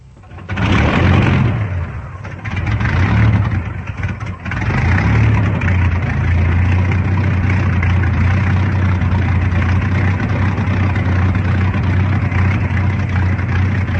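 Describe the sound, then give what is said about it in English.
A propeller plane's engine is started by the pilot just strapped in. It coughs and catches, then settles into a loud, steady idle with a deep, even drone that holds continuous to the end. “Just strapped into his plane and ready to start. Contact. Contact, the job's begun. Another moment and the engine starts.”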